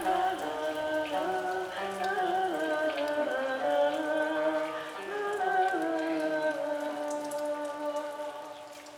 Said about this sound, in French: Et la pluie, ça me rappelle les nuits dans le camion, à l'avant de la cabine, avec mon père et avec la musique et le bruit de l'orage sur la tôle du toit.